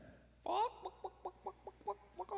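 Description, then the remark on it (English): A person's voice imitates a chicken: one loud squawk, then a quick, even run of about eight short clucks, fairly loud, with no other talking. “You are a chicken.”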